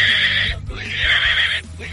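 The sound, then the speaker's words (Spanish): A person imitates a pig speaking Japanese with strained, squealing grunts: two long nasal bursts, a short break between them, and no ordinary talk alongside. “Habla japonés el cerdo.”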